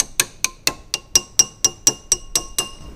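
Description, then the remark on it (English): A glass beaker filled with water, with no bubbles in it, is tapped about a dozen times at a steady, quick rhythm. Each tap gives a bright, high, ringing ping that decays briefly before the next. No one speaks. “The pinging sound is reduced and then continue to rise up.”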